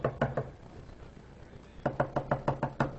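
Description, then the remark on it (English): Three sharp knocks on a door, a pause of over a second, then a longer run of about seven steady, evenly spaced knocks. The raps are fairly loud, with no talking. “And they go over there, and it's under the scarlet thread, and they come and they knock on the door.”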